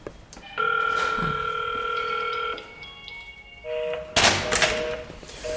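The electronic doorbell of Survivor's Home, an Art Nouveau (Jugendstil) building, chimes in three sustained, ringing tones that step down in pitch, followed by a loud, noisy rattling burst.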